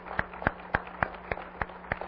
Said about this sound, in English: If you're a mom and you're able to, if you would stand, okay? And let's begin with just a little bit of applause in showing our expression of appreciation for these moms.